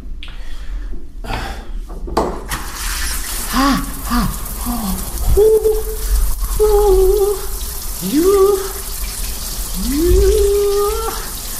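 A man's vocals, remixed to sound as if sung in a shower, sing slow, gliding, drawn-out notes over a steady hiss of running shower water, the voice slightly echoey and moderately loud.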